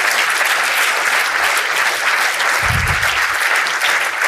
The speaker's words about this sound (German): Erstmal hier von der Tafel vielen Dank für die Arbeit und auch vielleicht stellvertretend das Weitergeben an die Ehrenamtlichen. Denn man muss ja ehrlicherweise, ja, gerne, das ist ein großer Applaus.